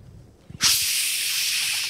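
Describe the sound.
A voice imitates rushing wind with a sustained, breathy hiss lasting over a second, fairly loud, preceded by a few soft low thumps.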